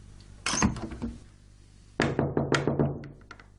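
Someone knocks on a door in two bursts, a quick cluster of raps followed after a pause by a longer run of about six firm knocks, with no voices.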